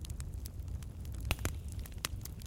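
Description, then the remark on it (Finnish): A campfire crackles steadily, with irregular sharp pops and snaps over a low, warm rumble of burning. It sounds fairly quiet, with no voices. “Kuulet tämän tulen rauhoittavan rätinän äänen.”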